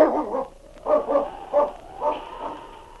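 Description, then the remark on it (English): King the dog barks in a quick series of short, sharp yelps, about five in a row, with a thin whining tone running between them, moderately loud. “King got to his feet and stood for a moment listening. And then, with another low growl, he trotted off to investigate.”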